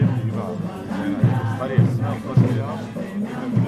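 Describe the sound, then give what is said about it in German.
An outdoor crowd in a street near the railway station in Avignon murmurs steadily as the audience gathers around a group of very colourfully dressed people in traditional Andean costume, many voices blending into a dense chatter, while dull low thumps land every half second or so beneath the hubbub. “Das Publikum versammelt sich um eine Gruppe von sehr bunt gekleideten Menschen im Stil der traditionellen Tracht der Andenvölker Lateinamerikas.”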